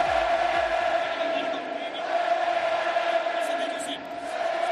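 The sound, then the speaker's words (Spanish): A huge stadium crowd of 60,000 Real Betis fans wearing Joaquín's green number 17 shirt roars continuously at his farewell from professional football, thousands of voices shouting, chanting and cheering together in a dense, steady wall of sound that swells and dips slightly but never stops. “60.000 personas con la camiseta verde de Joaquín con el 17 a la espalda, no paraban de gritar, de cantar y de animar al niño del puerto.”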